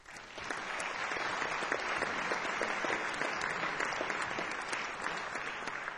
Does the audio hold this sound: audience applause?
yes